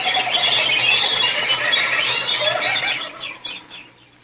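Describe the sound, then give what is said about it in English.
A dense flock of birds squawks and shrieks together, a loud, continuous harsh chorus that thins out and fades over the last second. “The birds.”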